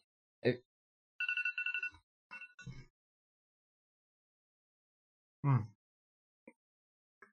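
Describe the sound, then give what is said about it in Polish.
A phone rings again in a short burst of rapidly pulsing, high electronic tones, followed by a few brief clicks and thumps amid otherwise quiet surroundings. “O, znowu dzwoni.”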